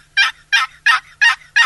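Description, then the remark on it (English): A series of five evenly spaced, raspy turkey yelps made on a wooden box call, loud, with brief pauses between each note. “If you can just learn the basic yelp and something as easy to use as a box call, you can call turkeys during the mating season.”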